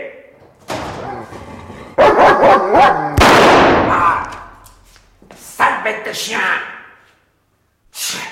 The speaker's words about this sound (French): Liquider le chien. Pas mort, mais c'est tout comme. Quelle peur il m'a fait, sale bête.